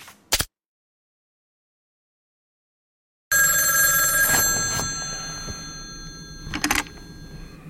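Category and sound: household object, telephone bell ringing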